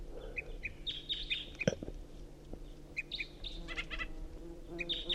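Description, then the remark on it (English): A wild bird of unidentified species, up in a tree, gives a tooping call: short, high, piping notes repeated in quick pairs and small clusters, moderately loud over a steady low background rumble, with no voices. “So recording tooping from an unidentified bird.”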